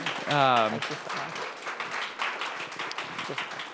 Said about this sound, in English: So will you just thank her by offering her some applause in this moment?